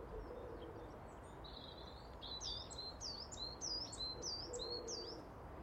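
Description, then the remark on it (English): A songbird sings in a back garden as light snow falls and the sun breaks through the clouds, a bright, high-pitched phrase of repeated slurred notes, about seven quick whistles in a row, over a steady low background hiss. No one speaks. “But isn't that birdsong beautiful?”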